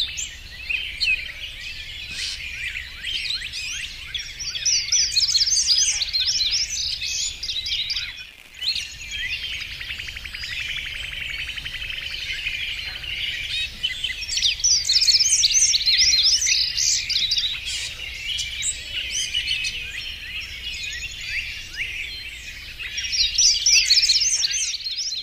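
A dense chorus of wild birds from the All About Bird Song online resource sings continuously, many overlapping high chirps and trills layered together, steady with brief lulls, with no voices present.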